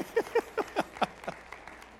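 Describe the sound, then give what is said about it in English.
Five sharp, evenly spaced claps ring out in quick rhythm, then dissolve into a few softer, scattered claps from the audience before fading away, the audience clapping when the speaker asks them to. No one speaks. “Go ahead and clap for me. Just clap.”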